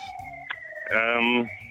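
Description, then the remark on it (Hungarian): A siren wails steadily from a car passing outside the European Parliament, its tone swelling louder for a moment before easing off, with faint voices underneath. “Sötét autóval szirénázva kíván karantén idei munkában menni.”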